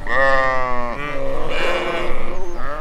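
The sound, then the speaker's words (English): A sheep bleats loudly, used as a sound marking a mistake: a long wavering baa followed by a second, rougher bleat, with no one talking. “Oh, the sound of the sheep means we made a little mistake.”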